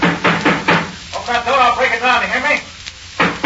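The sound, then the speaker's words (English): Heavy pounding on a door, a few loud thuds at the start and again near the end, with an agitated voice shouting in between. “Open that door, I'll break it down, you hear me? Open that door!”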